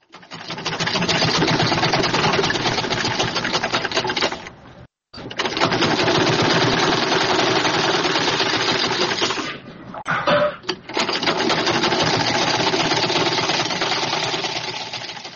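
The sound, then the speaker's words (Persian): A sewing machine used for tailoring runs in steady, rapid bursts, loud, its dense mechanical whir pausing briefly twice before starting up again. “ماشین خیاطی، قیچی، متر، سوزن و تار، پنسل، قلم رنگه و یا تباشیر از وسایل ضروری خیاطی محسوب می شوند.”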